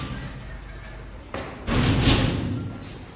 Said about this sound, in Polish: Sezamie, otwórz się. Kluczy mamy sufitą ilość. Nasze masywne drzwi zostały otwarte.